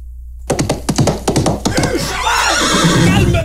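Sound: horse neighing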